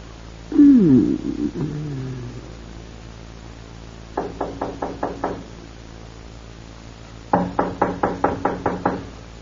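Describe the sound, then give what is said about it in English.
After a brief wavering vocal sound, someone raps on a door twice: a quick run of about six firm knocks, a pause, then a louder, faster series of about eight or nine. “The door. Let it wait.”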